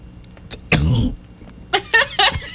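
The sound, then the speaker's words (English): A harsh, explosive cough bursts out, followed a moment later by three quick, sputtering coughs in a row, a coughing and sneezing fit caused by liquid caught in the windpipe. “I don't know if that was a sneeze or a cough.”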